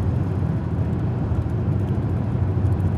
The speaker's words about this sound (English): One moment, I have a bunch of cars going by.